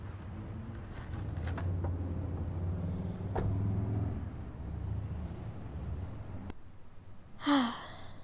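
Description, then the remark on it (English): A steady, low engine rumble of an old truck rolling along a country road, with a few faint rattles and clunks. The drone cuts off near the end, followed by a short breathy sigh. “You know, I must admit, the soft seat of this old truck is far more comfortable than my sandals on a country road.”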